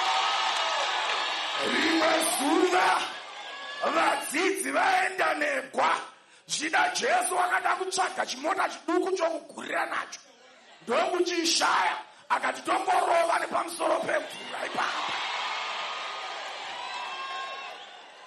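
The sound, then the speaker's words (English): A large crowd cheers and whoops loudly, with bursts of clapping and shouting rising and falling in waves over about eighteen seconds, broken by a few brief pauses; the crowd gives a clap offering to Jesus. “Why don't you give Wonderful Jesus a mighty clap offering?”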